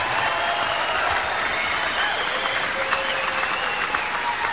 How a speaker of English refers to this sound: You don't have to clap.